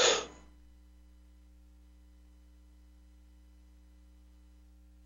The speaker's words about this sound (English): Excuse me, let me cough just a second.